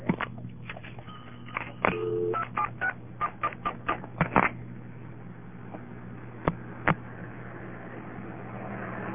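A rapid series of touch-tone beeps as a phone number is keyed in, each tone short and distinct, followed by a couple of sharp clicks over a steady low hum.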